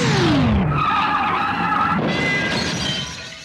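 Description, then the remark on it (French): A car driven by someone without driving experience accelerates and skids loudly with a harsh, sustained tire squeal over rough roaring engine noise. The engine pitch drops early on, and the sound carries on for a few seconds before easing slightly. “accélère.”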